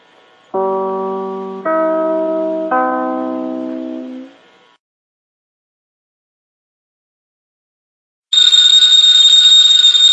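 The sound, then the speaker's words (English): Three mellow chime tones sound in sequence, followed by a few seconds of silence, then a loud telephone bell starts ringing continuously with a bright metallic clatter. “Ladies and gentlemen, that phone bell means adventure.”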